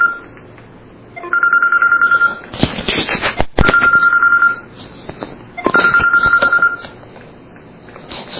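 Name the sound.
telephone ringing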